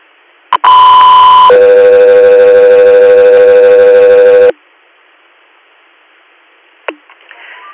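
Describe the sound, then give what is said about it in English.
A loud air ambulance dispatch radio paging alert in New York: one steady high tone for about a second, then a longer, lower steady tone for about three seconds, ending abruptly and followed later by a faint click. “Air, stand by for Tones.”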